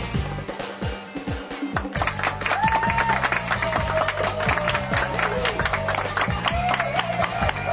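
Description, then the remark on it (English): A live audience at the Jay Pritzker Pavilion in downtown Chicago claps steadily with scattered cheers and whistles, a dense, sustained wash of applause that builds after a couple of seconds, with music playing underneath. “Just keep cheering.”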